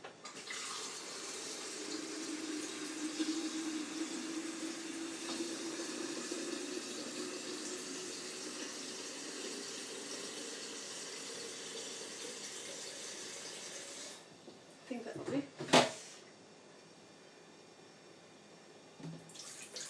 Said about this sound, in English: So I am first of all filling the kettle up again.